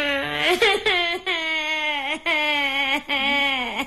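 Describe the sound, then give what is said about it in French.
A little boy cries loudly, long wailing sobs broken by quick catches of breath between them, with no other voices. “De toute façon, vous allez voir, même si on voit pas l'image, imaginez-vous un petit gars qui pleure.”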